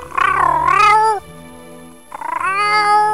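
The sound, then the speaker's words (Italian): A cat, the stray cat Dinamo, meows twice, loud, each cry long and wavering in pitch, with a short gap between them filled only by a faint steady hum. “Ci sono di nuovo io, DJ X, per parlarvi del pelo del gatto randagio Dinamo.”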